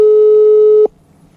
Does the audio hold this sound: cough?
no